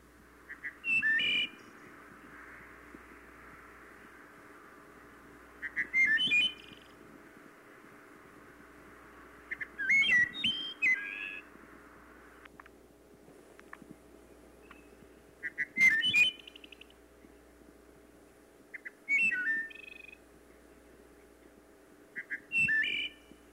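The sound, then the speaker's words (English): A wood thrush in Gainesville, Florida, sings six flute-like phrases, one every four to five seconds with pauses between, clear over a steady low background hum. “And speaking of the wood thrush, it is a summer resident only in the northern third of Florida and is not common.”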